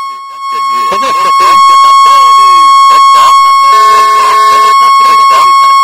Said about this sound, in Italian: Mi è partito un fischio, cos'era?